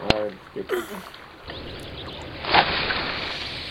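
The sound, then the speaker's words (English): Motorboat engines putt-putt steadily out on the Pine Mountain Club pond, a low sputtering rumble under wind and outdoor noise, with a brief muffled voice near the start. “Motor boats with their putt-putts.”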